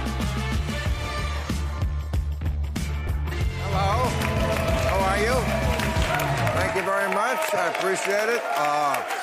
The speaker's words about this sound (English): You sound like a full crowd. Well, I tell you, I'm gonna miss these sparse crowds when we go back to normal.